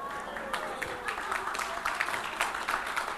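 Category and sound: crowd, audience clapping hands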